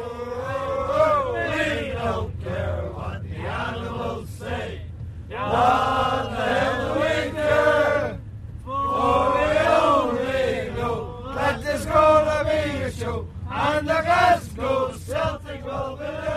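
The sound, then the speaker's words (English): A large crowd of football supporters chants and sings together in a stadium in loud, rhythmic bursts with short pauses between phrases. “They're singing our songs, it's our flag that they're proud to fly, you know.”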